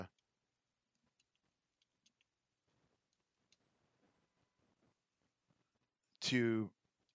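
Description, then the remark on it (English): Sparse, faint computer keyboard taps click irregularly for several seconds as someone quickly types to look up the corporate members of the Council on Foreign Relations, followed by a short, loud burst of a voice near the end. “I'm typing in really quick to”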